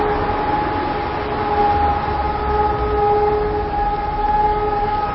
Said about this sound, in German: Warte mal kurz, bis die 12 Uhr Sirene weg ist.